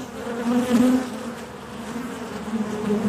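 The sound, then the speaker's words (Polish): A steady drone of bees buzzing continuously, with a sustained low hum that swells slightly in places, no voices present. “W momencie, kiedy zorientowałem się, czym jest miasto dla pszczół, no to zrozumiałem, że no, to jest przyszłość pszczół.”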